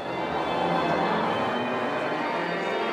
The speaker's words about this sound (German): Er wollte hier abwarten, so lange, bis die Glocken läuteten, die Glocken der nahen Kapelle, um zur Messe zu gehen und um dort endlich die Schuld der kleinen Heiligen abzustatten.